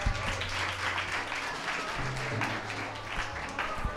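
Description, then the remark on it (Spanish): Steady applause from an audience on the programme Despierta UMH, a dense wash of many hands clapping without pause for several seconds, with a low hum running underneath. “Un fuerte aplauso”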